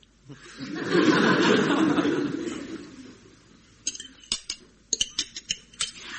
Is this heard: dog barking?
no